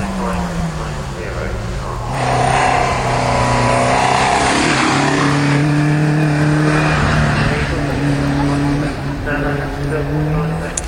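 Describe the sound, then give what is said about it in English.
A race car engine roars and revs continuously as it is driven up a hill climb course, its pitch shifting as it accelerates and changes gear, loud, with faint talk underneath. “We've just seen Steve go up the hill.”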